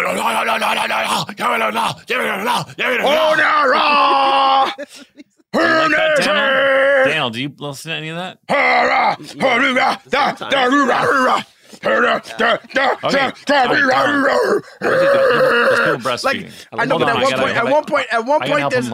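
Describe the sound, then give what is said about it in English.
A voice imitates metal pig squeal vocals with strained, groaning, pitch-bending squeals in loud bursts, broken up by brief pauses and ordinary speech. “At one point, there's somebody that always does this in that song. Yeah, get a good pig squeal going.”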